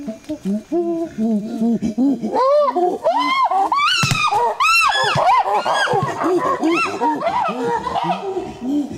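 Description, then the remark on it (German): A loud, chaotic chorus of chimpanzees hooting and screaming, with rising, overlapping calls that climb into shrill shrieks and fall back, continuing without pause for several seconds; the chimpanzees also make a very deep drumming. “Und wenn du da bei diesem Geräusch ganz genau hinhörst, dann hörst du natürlich die rumschreienden Schimpansen, als gäbe es nichts Gutes, aber du hörst auch so ein ganz tiefes Trommeln, was die machen.”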